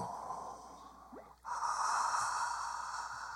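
Heavy, airy breathing close to the microphone: a long breath, a brief pause, then a stronger, louder breath that carries on steadily. No talking.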